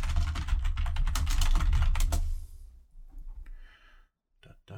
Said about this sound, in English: I'm looking this shit up now. I almost never clickety-clack on keyboards for this, but now I want to know.